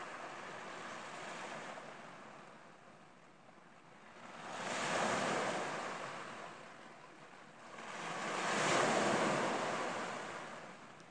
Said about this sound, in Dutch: En elke keer als die golf naar je toe komt, neem je de energie uit het water.